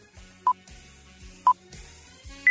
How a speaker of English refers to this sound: Okay, you've got 3 seconds after each time I answer the question. You'll hear 3 little beeps and then you answer.